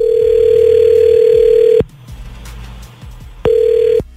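A telephone ringback tone sounds twice, a long steady buzz followed by a pause and a shorter second burst, heard clearly as 99.9 Virgin Radio hosts place a call, with no one speaking.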